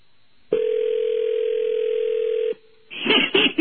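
telephone dial tone

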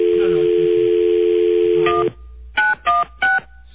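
phone dialing tones

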